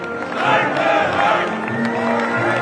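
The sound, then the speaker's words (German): A large crowd at a Volkswagen works meeting roars with applause and chanted slogans as the works council and the Federal Labour Minister enter, a dense, loud, continuous wall of voices and clapping that holds steady throughout. “Beim Einzug von Betriebsrat und vom Bundesarbeitsminister dann Applaus und Parolen.”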